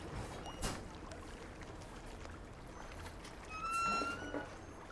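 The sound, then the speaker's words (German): Water laps and sloshes gently against small bobbing boats and a floating pontoon in a sea canal cut into a city's streets, a soft steady wash with a couple of brief splashy surges, fairly quiet, with no one speaking. “Ein Stück weiter ist ein Kanal ins Straßennetz hineingeschnitten und das Meer ragt in die Stadt. Kleine Boote dümpeln dort. Ein Ponton wippt.”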